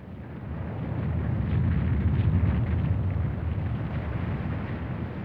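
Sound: earthquake rumbling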